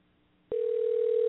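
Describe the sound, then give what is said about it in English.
After a brief hush, a phone's ringback tone on an outgoing call switches on abruptly as one steady, mid-pitched electronic hum that holds unbroken to the end, with no voices. “It's still ringing.”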